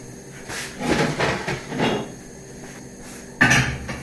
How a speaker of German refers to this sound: Also der Topf mit Polenta steht jetzt auf dem Herd. Also ich mag zum Beispiel den Lärm, den ich selber mache, wenn ich koche. Besonders, wenn ich die Töpfe auf die Gasflamme stelle. Da ist ja so ein Gerüst um die Brenner rum, wo der Topf draufkommt.